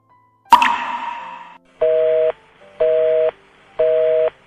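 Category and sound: signal or alarm, telephone call tone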